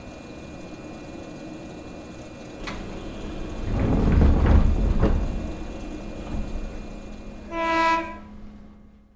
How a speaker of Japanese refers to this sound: あ、ちょうど電車が到着しましたよ。はい、そのまま乗りましょう。あれ？何名か向こうの方でお客さんたちが乗ってます。この電車、一車両のみのワンマン電車ですね。